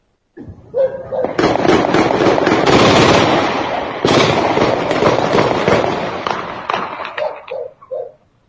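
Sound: intense exchange of gunfire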